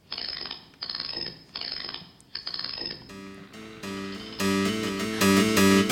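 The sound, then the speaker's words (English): Four ratcheting clockwork winding bursts as a key is turned four times counterclockwise, then a mechanical automaton begins playing a keyboard: bright, sustained notes stepping upward and growing louder, with no voices. “Is she really playing the keyboard?”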